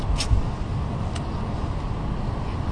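A car engine idles steadily with a constant low rumble, broken by a couple of faint clicks and no speech.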